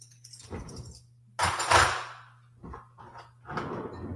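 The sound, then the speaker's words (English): Dishes clink and clatter as they're set into a cupboard, a few uneven bursts of rattling crockery with a steady low hum underneath and no talking. “Just finishing my dishes away.”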